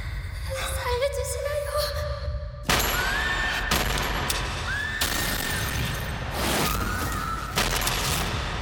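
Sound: gunshots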